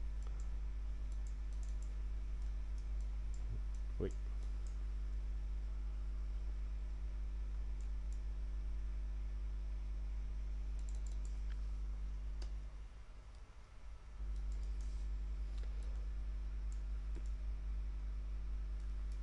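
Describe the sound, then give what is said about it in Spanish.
Sparse, faint clicks of a computer keyboard and mouse, used to cut and paste text in a Windows 8 demo, tick irregularly over a steady low electrical hum, with no one speaking. “O podemos cortar un determinado texto, volver a pegarlo, tanto con el teclado como con el ratón.”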